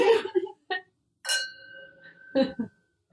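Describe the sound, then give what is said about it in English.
Two wine glasses clink together once in a Valentine's toast, a bright tap that leaves a clear ringing tone hanging for about a second, with short bursts of voices just before and after. “Cheers.”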